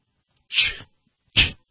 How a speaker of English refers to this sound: Bless you.